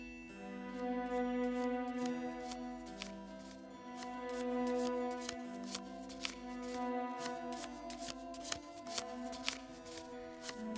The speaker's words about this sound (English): Now, as you shuffle the deck, feel your energy flow into the cards.